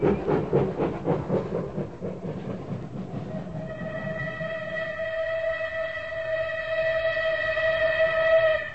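A steam train passing through Bexhill Station chugs by with rapid, rhythmic puffing and rattling wheels, then its whistle sounds a long, steady shrill blast that grows louder before cutting off.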